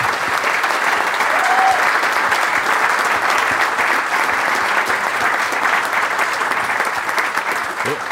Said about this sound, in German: Applaus von Hanka und von allen.